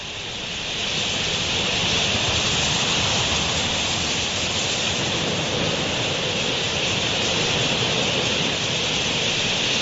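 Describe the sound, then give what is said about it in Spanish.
A vast flock of thousands of parakeets flying in a huge swirl over the desert makes a dense, unbroken roar, with countless shrill calls and wingbeats merging into a steady hissing wash that swells in the first second, then holds. “Formando un enorme remolino, miles de periquitos en vuelo.”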